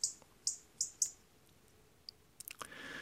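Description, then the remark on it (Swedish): A European robin gives sharp, high ticking alarm calls: four crisp ticks in an uneven series, then a fainter tick and a quick little cluster, ending in soft rushing background noise. “Det som jag tror att man löper störst risk att blanda ihop rödhakens knäpp och knatter med är gärdsmygens motsvarande läten.”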